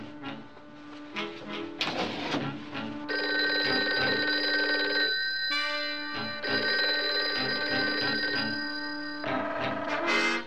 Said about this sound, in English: Why doesn't he answer? Maybe he went out for a walk. No, he's under doctor's orders not to leave the apartment. Maybe he's taking a nap. No, I let the phone ring often enough to waken him.